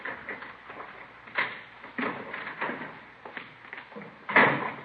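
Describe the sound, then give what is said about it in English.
A kitchen door at the back is handled and opened as someone enters at 1:45 a.m., with a series of muffled clunks and rattles spread over a few seconds, ending in a louder thump near the end. “Somebody's coming around back there. Yeah. Kitchen door.”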